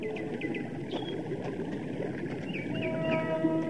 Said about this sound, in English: Up ahead is a waterfall. Hear it?